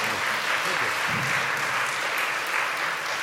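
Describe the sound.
A round of applause from an audience, steady dense clapping at an even volume for the full three seconds, with a faint voice briefly audible beneath it.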